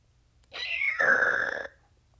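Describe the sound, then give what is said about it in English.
A person imitates a whale's creak: one short vocal sound, first a high squeaky tone sliding downward, then a raspy, buzzing creak lasting about a second before stopping abruptly. “Then they also have creaks, which sound like a squeaky door and are used at close range when prey capture is imminent.”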